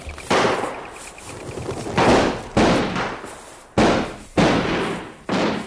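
Six loud shotgun shots fired at game birds in an irregular rhythm, some in quick pairs, each sharp blast trailing off in a rumbling echo. No one speaks.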